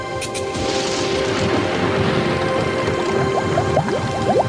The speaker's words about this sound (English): Annette plunks the dolls into the bubbling liquid.